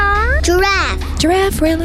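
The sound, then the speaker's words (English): A young child's high, sing-song voice imitates animal noises, with a drawn-out, meow-like cat call among a few short gliding vocal sounds. “Dog. Cat.”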